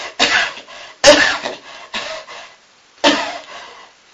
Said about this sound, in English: That cough is beginning to go.